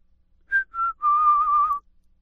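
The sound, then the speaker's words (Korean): A father whistles three clear tones under a tree in fine weather: two short notes followed by a longer, slightly wavering held note, with no talking around it. “날씨가 좋을 때 아빠가 나무 밑에서 휘파람을 불면 바람이 분단다.”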